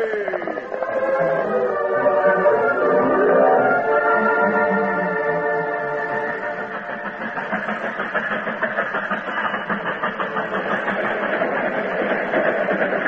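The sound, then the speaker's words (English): A westbound train pulls into the station of a southern Missouri town at ten past eleven at night, sounding its sustained, chord-like whistle while a steady rhythmic chugging continues underneath, loud and constant throughout, with no voices. “Scheduled for a 14-hour stop in a southern Missouri town before continuing its journey, the westbound train pulled into the station at 10 minutes after 11 one night.”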